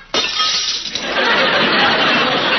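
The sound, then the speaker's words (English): A sudden, loud crash of glass shattering, followed by a steady spray of tinkling and clattering shards that keeps going for a couple of seconds. No voices are heard. “Well, I can usually break a glass by singing.”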